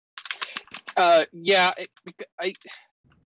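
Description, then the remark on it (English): Quick, irregular clicking of fingers typing on a computer keyboard, fairly loud, with short bursts of a muffled voice mixed in between the keystrokes. “Sorry for the typing.”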